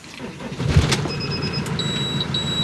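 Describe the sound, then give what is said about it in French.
A camper van engine cranks and catches with a brief surge, then settles into a steady low rumble while thin, high electronic beeps sound over it. Nobody speaks. “C'est comme ça que je démarre.”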